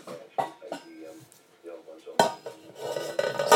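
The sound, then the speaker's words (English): Clatter of dishes being pulled out and set down, a few sharp clinks early on, then a busier run of rattling crockery and cutlery toward the end, with faint voices in the background. “So, right, we want dishes for these boys.”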